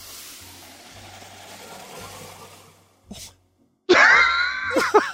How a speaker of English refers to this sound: Like a Toto washlet flushing noise. Yeah, it's like a urinal just...